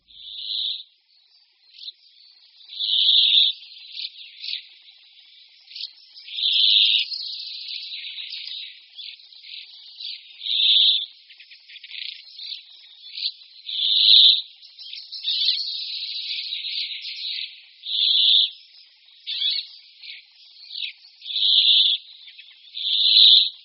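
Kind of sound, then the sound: bird, brambling song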